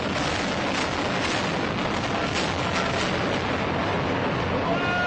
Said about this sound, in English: This is from March 18th, 2006. This was the landmark tower in Fort Worth as it imploded. This is an aerial view. Okay, here we go. There's the explosion. Yeah. Yeah. It's not falling yet. Okay. Wow.